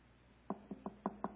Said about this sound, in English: The knock on the door later is Nathan.